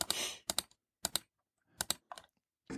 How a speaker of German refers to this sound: Ich kann nicht nur hören, wo du klickst, sondern ich sehe es jetzt auch noch, weil du es in dem Google-Sheet machst.